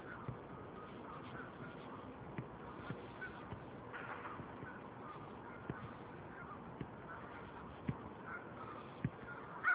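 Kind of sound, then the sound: bird, geese honking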